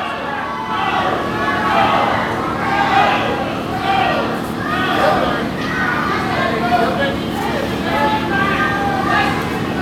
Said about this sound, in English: You hear the fans cheering for Chris Michaels, booing for Derek Neal.